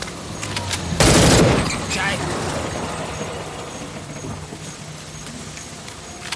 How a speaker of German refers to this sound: Verdammt, ist das ein Unwetter!